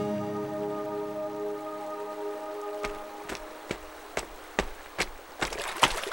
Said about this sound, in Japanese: 僕は水を跳ね上げ川に入っていった。膝までまくり上げたズボンが濡れそうになるギリギリまで進んだ。